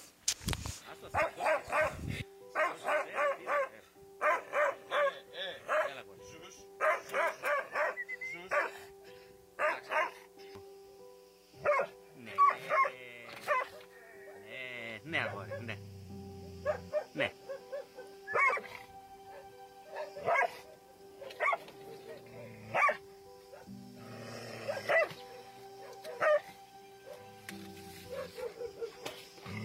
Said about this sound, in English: And so a little viewer discretion here. It's a mean dog.